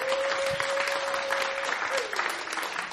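An audience at the Brinkhuis claps steadily for a singer, a dense patter of many hands at a fairly loud level for several seconds, with a sustained tone underneath that bends downward near the end.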